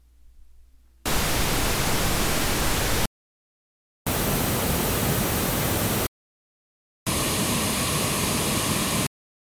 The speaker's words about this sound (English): First, I'll play a small sample of the pink noise, followed by the pink noise recording on the R09, finally the pink noise recorded on the R1.